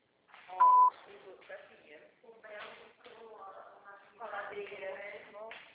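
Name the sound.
voicemail beep tone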